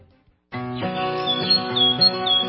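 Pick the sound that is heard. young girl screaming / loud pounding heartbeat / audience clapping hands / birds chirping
birds chirping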